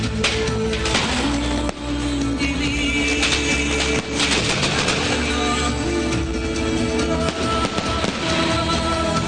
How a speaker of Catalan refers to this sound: I continuen sentint-se aquests... petards, la pólvora que obre i tanca les festes a Sitges.